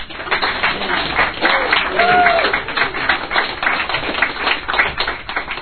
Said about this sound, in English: And you deserve a round of applause for yourselves.